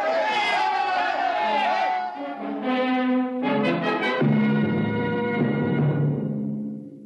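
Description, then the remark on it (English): Several voices yell and shout together in a loud, continuous clamor, an agitated crowd bellowing as it gives chase down a long steel corridor, for several seconds without a pause. “Reichert and Aylin ran down the long steel corridor with the crowd on their heels.”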